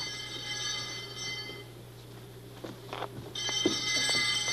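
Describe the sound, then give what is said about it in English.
A bell brought by Mr. McFeely, long kept in his family, rings in two bursts with a short pause between them. Its bright, shimmering tones sustain and ring out over a steady low hum, and no one speaks. “I just thought you might enjoy seeing the bell.”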